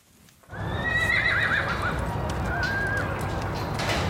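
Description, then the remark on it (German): A captured black wild mustang, being tamed by a prisoner who slowly approaches to put a rope halter on it for the first time, neighs loudly with a shaky, wavering whinny, then gives a shorter call, over steady hoof clomping and a dense ambient rumble throughout. “Das will er dem schwarzen Mustang heute zum ersten Mal anlegen.”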